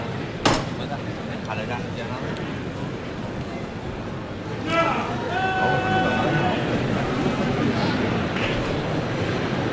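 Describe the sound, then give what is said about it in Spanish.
A sharp metallic knock from the hammer knocker of a canopied palio float rings out over a dense crowd murmur with shouts, some applause and calls for silence, followed a few seconds later by another strike and some lingering ringing tones amid the noisy crowd. “Suena el martillo.”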